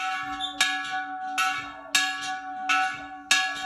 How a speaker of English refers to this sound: Those are the bells I gather from the central clock tower in Campus Galli.